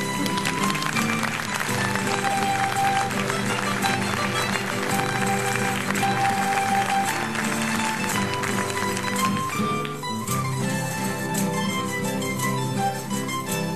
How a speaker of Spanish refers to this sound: ¡Ese aplauso!